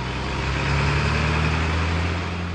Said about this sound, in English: On a chilly, rainy Monday morning, about 50 commuters are packing into a bus that'll take them from Milwaukee's east side to downtown. It's about a 20-minute ride.